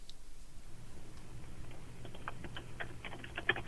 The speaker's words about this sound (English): What are you typing? Are you typing my phone number into your computer? Nope. What are you typing then? Just cruising around.